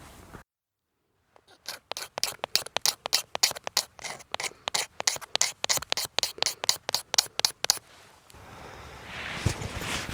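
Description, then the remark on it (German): A knife scrapes shavings from a resinous fatwood (Kienspan) stick, making fatwood wool to catch a spark from a fire steel, in a quick, steady series of about twenty sharp, rasping strokes, followed by a rougher, continuous scratching. No one speaks. “Wow, ich habe meinen Feuerstahl mit und ein Stück Kienspan und habe davon gerade ein paar Spinne abgemacht und gerade einen Funken in diese Kienspanwolle geschlagen.”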